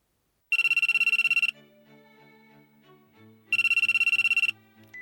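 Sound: cell phone ringtone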